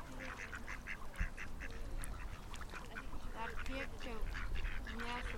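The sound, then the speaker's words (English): A flock of geese on a lake honk steadily in a busy, overlapping chorus of many repeated calls, loud throughout, with a brief voice speaking over them. “One of the geese seems to have a bit of something caught.”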